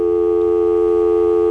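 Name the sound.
telephone dial tone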